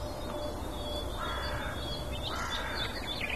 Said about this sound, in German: Und so ein bisschen zeigen uns auch die Krähen, wo der Hammer hängt.